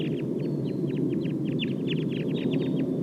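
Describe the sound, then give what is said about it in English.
A wild flock of about 11 birds, sounding as if getting ready to fly, calls in rapid, overlapping bursts of short, high chirps and clucks, steady throughout over a constant low rumble of background noise. “Start recording the wild flock now.”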